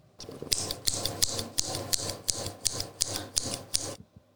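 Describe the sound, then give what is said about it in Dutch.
A hunter cuts open a wolf's belly with scissors: about a dozen rasping, crunchy snips in a steady rhythm, fairly loud, with no voices. “Toen pakte hij een schaar en knipte de buik van de wolf open.”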